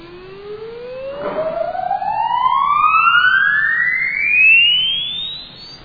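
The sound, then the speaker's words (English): An exponential sine sweep played through a loudspeaker with a lot of distortion glides steadily upward in pitch for about six seconds, buzzing with fainter distortion harmonics that climb in parallel above it, giving a harsh, distorted tone. “When you play this through a loudspeaker which has a lot of distortion, this is the response you get.”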